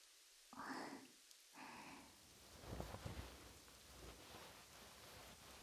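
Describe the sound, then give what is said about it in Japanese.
Steady rain falls throughout with a dense, hissing patter, and a brief muffled voice sounds over it near the start before the downpour continues alone. “雨が落ち着くまで一旦あそこの岩陰で休まないか。”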